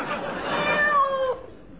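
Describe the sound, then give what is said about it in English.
A single drawn-out cat meow, clear, rising then falling in pitch over about a second before trailing off, with no talking. “And unbeknown to them, they're being watched by a cat.”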